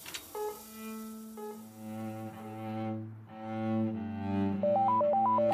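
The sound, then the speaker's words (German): Low, sustained cello notes play steadily, then a telephone starts ringing near the end, a bright electronic tone hopping rapidly between two high pitches over the music. “Kaum sitze ich am Cello, klingelt das Telefon.”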